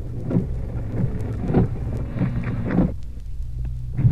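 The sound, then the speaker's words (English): Heavy rain pours in a steady, dense hiss over a deep, constant rumble, with soft thumps recurring roughly every half second and no voices. “Pretty wet, heavy rain.”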